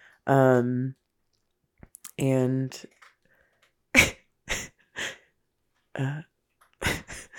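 A male cat crunches on dry kibble, picking out the good pieces: a run of sharp, crackly bites in uneven bursts, following two short, tonal vocal sounds at the start.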